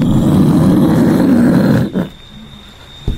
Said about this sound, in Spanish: Y cuando se pone en cabecera de pista, mantiene ese silbido y en un momento le da aceleradores full, le da todo el gas y el silbido empieza a tomar velocidad, y ya se transforma en...